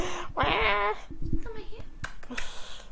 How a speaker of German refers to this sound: Ich dachte, ich kann euch jetzt ein paar Miaus ganz nah ans Mikro geben.